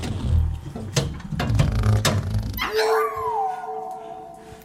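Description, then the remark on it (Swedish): A dog named Tofu barks in a rapid cluster of sharp yips, then breaks into a sustained, wavering howl that slowly falls in pitch. Fairly loud, with no voices. “Den hunden kan inte bete sig för 5 öre, det vet du ju.”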